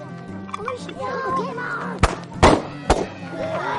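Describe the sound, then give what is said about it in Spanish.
Three sharp firecracker bangs pop in quick, uneven succession as children play with firecrackers, their voices chattering and calling out continuously in the background. “Niños jugando con petardos.”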